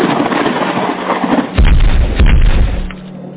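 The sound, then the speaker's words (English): A steady hiss gives way to a sudden loud thunder crack from a lightning strike, followed by a heavy, deep rumble that rolls for about a second before fading back into the hiss. “The sky cracked fierce with the lightning strike.”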